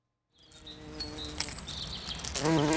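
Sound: bees buzzing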